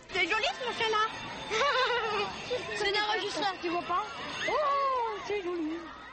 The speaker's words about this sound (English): The hubbub, the animated young voices, might be echoing in a playground anywhere in the world.